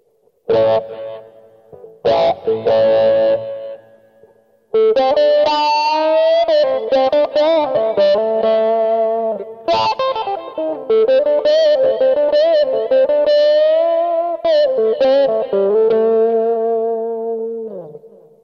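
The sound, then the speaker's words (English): Slightly overdriven electric blues guitar amp sound with an auto-wah sweep, playing bending lead phrases and sustained notes with a touch of delay and hall reverb; a few short stabs open before a continuous, loud solo line carries on alone. “Anyway, so we'll take the basic sound, add the auto wah, and you can hear what that sounds like now.”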